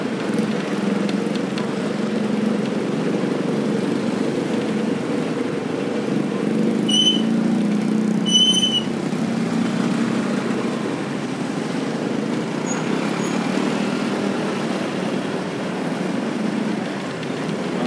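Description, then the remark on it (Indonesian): Traffic jam noise in which even a convoy of officials' hajj pilgrims is stuck amid large crowds: a steady, dense low rumble of idling engines that never lets up, with a couple of brief high-pitched horn beeps cutting through partway in. “Sampai rombongan haji jamaah pejabat macet.”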